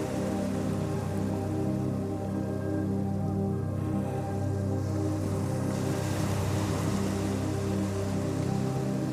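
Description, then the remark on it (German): Ocean waves wash in a steady, continuous roar with no distinct breaks, a dense watery hiss holding at an even, moderate level throughout and no voices. “Die Wogen des Ozeans singen dir ihr leises Lied und begleiten dich in die Traumwelt.”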